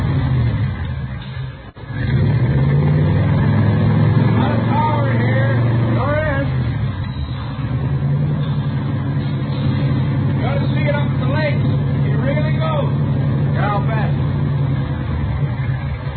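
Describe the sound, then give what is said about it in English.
A powerful 120-horsepower car engine with Mallory ignition, milled heads and twin Wakefields, built from salvage car parts, catches after a brief stutter, then idles loudly with a deep, throaty rumble and occasional revs while people talk over it. “120 horses under there. Yeah, sounds good. Listen at that.”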